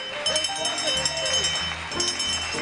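Cowbells clank in a busy, irregular jangle over low thudding steps, with animal calls mixed in, as a herd of cows moves off together and exits a concourse.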